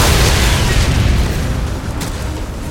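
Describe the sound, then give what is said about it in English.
A loud grenade explosion: a deep booming blast whose heavy rumble rolls on for a few seconds and slowly tapers off, with no voices. “Kane felt the heavy jolt of the explosion, the sear of heat against the back of his neck.”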